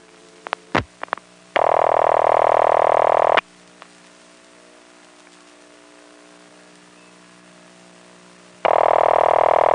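A few clicks, then a steady ringback tone on a phone line: one long burst of about two seconds, a long quiet gap with faint line hiss, then the tone starts again.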